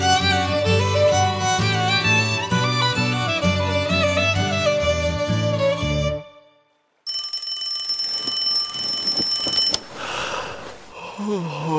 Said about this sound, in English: switched off his alarm clock. It was 6 a.m. on a bright sunny morning,